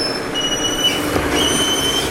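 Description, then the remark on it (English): A garbage truck rumbles as its brakes let out a steady, piercing high squeal that wavers and returns over a couple of seconds. No one speaks. “Garbage truck, in case you're wondering.”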